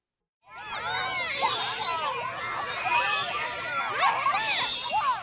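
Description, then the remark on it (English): About eight elementary-age children playing on squeaky swings at recess at East Elementary School in Callaway County, Kentucky, pumping their legs to swing as high as they can: a steady, lively clamor of many high young voices shouting, squealing and calling over one another for about five seconds, with no break. “These squeaky swings are a popular place to play during recess at Callaway County, Kentucky's East Elementary School.”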